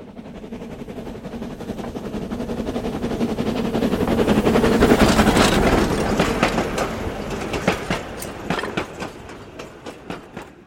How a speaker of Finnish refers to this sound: Neiti Jänis kuljettaa aikuisia töihin isolla junallaan.